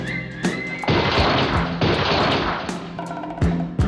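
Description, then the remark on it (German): Pistol shrimp dueling a few centimetres apart, their claws snapping back and forth in a series of loud, sharp cracks at irregular intervals, set against a dense crackling, hissing background with no voices. “Und mit ihren Pistolenscheren duellieren sich die Knallkrebse auch.”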